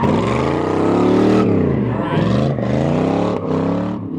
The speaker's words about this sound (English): standing back-to-back in the middle of a stunt-driving obstacle course while a car does donuts a few inches away from our toes.